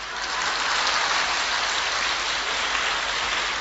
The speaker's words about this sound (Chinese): 鼓掌。